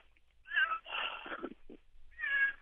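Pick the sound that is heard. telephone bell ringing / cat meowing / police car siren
cat meowing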